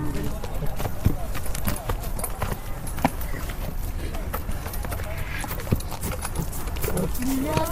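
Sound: horse hooves clip-clopping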